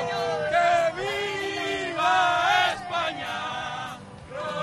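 A crowd of football fans in the surroundings of the Education City stadium shouts and chants together in loud, sustained sung phrases, voices rising and falling in pitch with brief dips between bursts of the chant.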